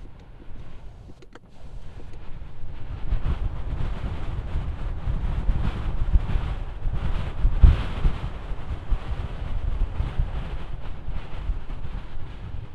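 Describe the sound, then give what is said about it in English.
Strong wind roars in through a window opened just a crack, a loud, steady low rumble with gusty buffeting that swells after a brief quieter start and stays heavy throughout, with no voices. “That's pretty windy.”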